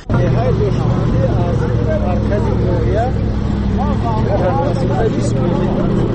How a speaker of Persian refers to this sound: مرکز ناحیه بلجوان حرکت داریم به سمت روستاهای دوردست شهیدان و باغی زاغان که از موضع‌های تماشابابی تاجیکستانند. حالا همراه با گروه ساکنان این روستاها در ماشین کلان باربر حرکت داریم و این مردان بار میکشونند به خانه های خود تا زندگی خودشان را تأمین کنند.